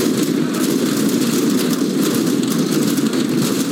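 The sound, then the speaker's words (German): Security forces in Belarus hammer batons on their riot shields all at once. The hits merge into a loud, dense, continuous clatter of overlapping blows that holds steady throughout, with no voices. “Mit Schlagstöcken hämmern Sicherheitskräfte auf ihre Schutzschilde.”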